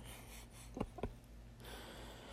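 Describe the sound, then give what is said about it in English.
A dog snores in two quick, rough snorting breaths, one right after the other, faint above a steady low hum, with no one talking. “Oh, my dog's snoring.”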